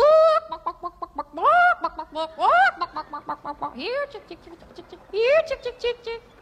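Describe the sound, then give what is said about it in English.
A person imitates a chicken with a rapid series of clucks and rising, squawking bawks, loud, repeating in bursts across several seconds. “did you ever hear Chicken Sound? You know how chickens go?”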